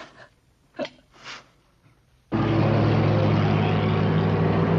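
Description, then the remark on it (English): After a couple of seconds of near quiet with two faint puffs, a large truck's loud, steady engine roar and road rumble abruptly fill the scene as it rolls along the highway. “A juggernaut rolls along the highway.”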